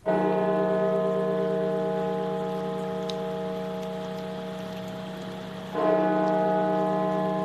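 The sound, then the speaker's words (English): Large bells of the Washington National Cathedral toll with a rich, sustained tone that slowly decays, then a second heavy strike lands near the end, all over a faint hiss like rain. “Bells tolling at the Washington National Cathedral, and as we have done for the past year, the awful toll again tonight.”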